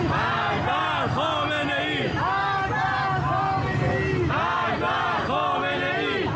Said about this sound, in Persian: تناقض‌ها و ناراستی‌هایی که مردم خشمگین تهران را هم به خیابان آورد. معترضان در خیابان حجاب فریاد مرگ بر دیکتاتور سر دادند.